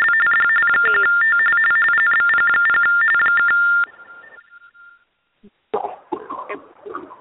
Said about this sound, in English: I don't know if that was a phone.